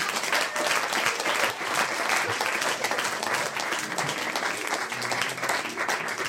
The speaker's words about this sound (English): One more round of applause for Frances Shire.